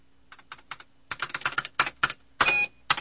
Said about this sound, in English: Yamali Darm pecked through a command on the ramshackle keyboard, then turned to Luke.